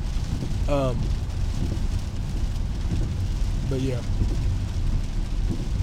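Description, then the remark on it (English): Steady, dense rain pours down throughout, a constant hiss and rumble, with a voice briefly speaking over it a couple of times. “There's a guy working on the electrical lines in the pouring down rain.”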